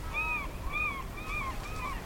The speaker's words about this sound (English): So the way the night goes on the island, it starts off and the rhinos come in right at dusk. One of the recordings has gulls in the background, and so you're hearing these really obnoxious gulls, really loud.